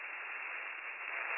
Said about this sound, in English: Your radio is static. Go again, please.